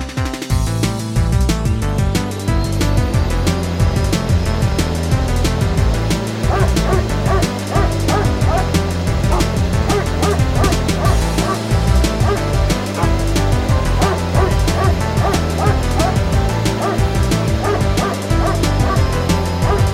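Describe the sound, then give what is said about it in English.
A dog barks over and over in a steady, almost musical rhythm, loud, with a dense layered backdrop filling the whole stretch and no talking. “I don't think the dog sounds that bad. Quite a rhythmic dog.”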